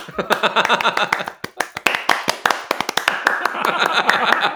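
hands clapping

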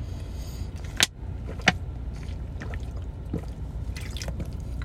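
drinking water

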